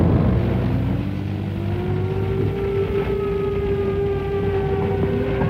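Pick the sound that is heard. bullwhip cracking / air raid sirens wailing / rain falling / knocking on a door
air raid sirens wailing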